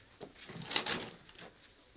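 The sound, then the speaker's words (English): An unlocked wooden cabin door is pushed open with a brief creak and scrape, a few soft knocks and rattles around it, moderately quiet, with no one speaking. “Open the door, Sheriff.”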